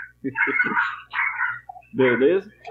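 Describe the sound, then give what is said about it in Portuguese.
A person vocally imitates a dog, producing three quick bark-like yelps followed by a drawn-out whining howl, fairly loud. “Caraca, que interpretação incrível do cachorro. Foi o cachorro.”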